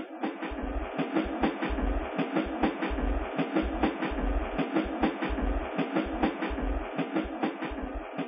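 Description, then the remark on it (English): Train wheels clack steadily over rail joints in a repeating rhythm, with a continuous rolling rumble beneath, from a moving, gently swaying train car. “The gentle swaying of the train car and the rhythmic clacking of its wheels made sleeping a pleasant experience.”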